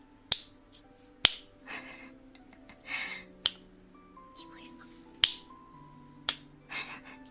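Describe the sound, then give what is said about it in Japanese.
A series of sharp, crisp finger snaps at irregular intervals, fairly loud, with a person murmuring softly between them. “こんな感じ。指パッチン。”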